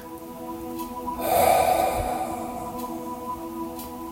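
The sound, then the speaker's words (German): One deep, audible exhale during a guided breathing exercise rises and fades over about a second, breathy, over a soft, steady tonal drone with no talking. “Und mit dem nächsten Ausatmen nochmal bewusst aus dir hinaus atmen.”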